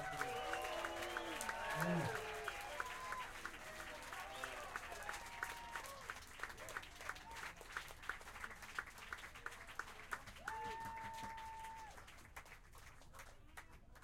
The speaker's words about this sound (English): A warm round of applause, if there is any other kind, for …. … on the drums.